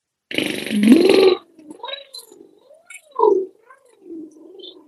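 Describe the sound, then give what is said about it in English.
A loud, raspy, gargling vocal burst, then a softer voice gliding slowly up and down in pitch in repeated wavering swoops, imitating a siren, as a voice exercise for releasing tongue tension. “Like a siren, right? We make little dumb noises.”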